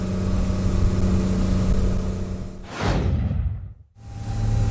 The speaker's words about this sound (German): Fahren wir aus dem Hafenbecken raus, jetzt wird es laut